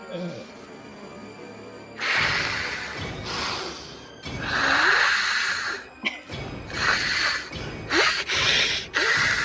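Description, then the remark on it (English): A voice performs loud, exaggerated breathy rasps and hisses in several uneven bursts, imitating an alien queen communicating by breathing, with short pauses between the heavy exhales. “I pick the alien queen, and you have to communicate by breathing and pheromones.”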